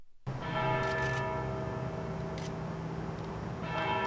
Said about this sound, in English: 29 peals of the Liberty Bell at the state capitol marked a moment of silence in honor of 29 miners who lost their lives last week at the Upper Big Branch mine in Raleigh County, West Virginia.